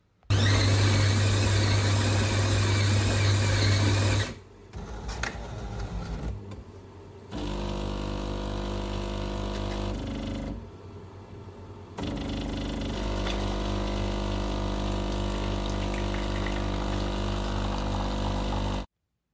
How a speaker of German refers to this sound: Genau, das war die Kaffeemaschine.